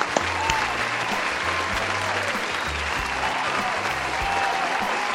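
Sustained applause from a crowd, a dense steady clatter of many hands clapping at an even loudness for the whole stretch, with a low tonal hum underneath.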